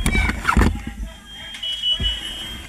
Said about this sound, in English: And you hear the fire alarms.